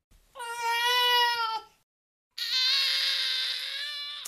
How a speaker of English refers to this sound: And these are from the study itself. These are the sounds of baby cries used in the study.